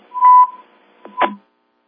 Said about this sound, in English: Sounds like you got a Roger beep on there